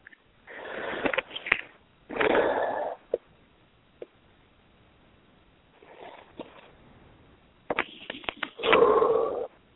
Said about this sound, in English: Sounds good. Yeah, nice breathing. That's the way to access that deeper stuff and let it move.